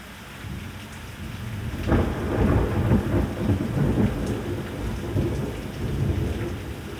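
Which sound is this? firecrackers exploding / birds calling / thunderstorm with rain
thunderstorm with rain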